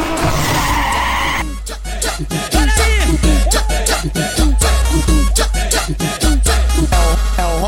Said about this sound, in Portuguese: É o ronco do motor da R1, mas parece uma turbina fina. Parece uma turbina fina.